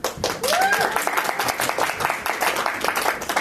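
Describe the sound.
A crowd applauds steadily throughout, a dense patter of many hands clapping at a fairly loud, even level, with a brief whistle or whoop rising and falling early on and some voices mixed in.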